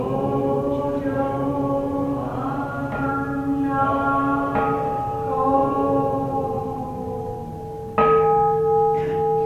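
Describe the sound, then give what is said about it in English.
A temple bell (kansho) rings out in several strikes a few seconds apart, each tone humming and overlapping the last as it slowly decays; the final strike is brighter and louder. No talking. “the idea of automating the ding-gongs or the Kansho is ridiculous”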